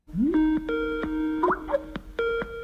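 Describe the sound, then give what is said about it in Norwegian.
A Skype outgoing call ringing tone as a call is placed to a child psychologist: bright electronic chimes opening with a quick rising note, then a short series of steady, evenly spaced tones, loud with no voices. “Vent litt, skal jeg se om hun tar telefonen her. Skal ringe henne på Skype.”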